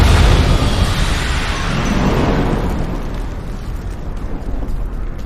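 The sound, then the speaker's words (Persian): A facility being blown up: a loud, sustained explosion roars with deep rumbling low end, then slowly decays into a long, crackling debris-like rumble over several seconds, with no voices. “نگران اینم که قبل منفجر کردن اونجا از تار نمونه برنداشته باشیم.”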